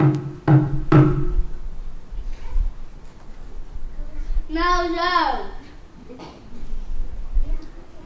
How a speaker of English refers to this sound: They got to the inn and knocked on the door.